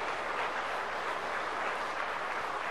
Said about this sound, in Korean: 이제 공식적으로 두 사람이 부부가 된 것을 예수님의 이름으로 선포했습니다. 여러분 이제 큰 박수로서 축하해 주시기 바랍니다. 예, 축하합니다.